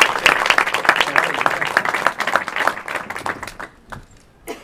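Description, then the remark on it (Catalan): A crowd applauds with dense, crackling hand claps that hold steady for several seconds, then gradually thin out and fade toward the end, leaving a few scattered claps. “Així que us prego, sisplau, que em doneu aplaudir.”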